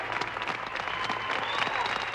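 Sustained applause with scattered cheering from a crowd in a room as the Apollo 11 Eagle lands on the moon: a dense, steady clatter of many hands clapping at once, holding an even loudness throughout the short stretch.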